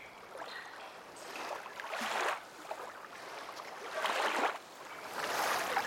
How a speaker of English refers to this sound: Time erased by repetition, moon's unseen baton orchestrating choirs of gentle waves, the bright bay of midday sun peeking through, mesmerizing mummified air.